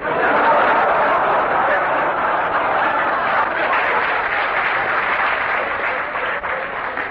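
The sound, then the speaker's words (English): Steady applause from an orchestra clapping continuously for several seconds, a dense, even patter of many hands with a faint murmur of voices underneath. “The applause, incidentally, came from the orchestra.”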